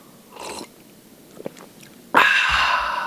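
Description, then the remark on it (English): Loud slurping right against the microphone: a short airy sip and a few small mouth clicks, then a long, harsh sucking slurp that swells suddenly and fades out. “Probably shouldn't slurp so loud in the microphone.”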